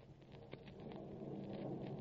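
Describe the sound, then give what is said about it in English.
A low, steady rumble of thunder rolls on without a break, with a brief crackling burst early on, heard alone with no voices. “I don't see any lightning, though. You never see lightning in California.”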